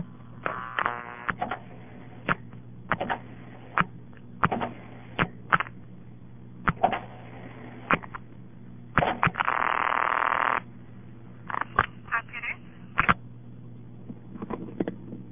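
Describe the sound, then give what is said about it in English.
Over a telephone line with a steady low hum, irregular switching clicks and clatters of a town's ringing generator equipment sound, then a single harsh, buzzy ring of about a second, followed by more scattered clicks. No one speaks. “The ringing generator in this town has a rather weird kind of sound to it. You hear all kind of clicks of its equipment before the ring and then right after the ring.”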